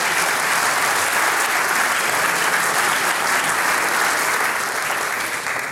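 A live audience at a radio broadcast applauds steadily after a told story, a dense wash of many hands clapping at an even, loud level throughout with no voices standing out.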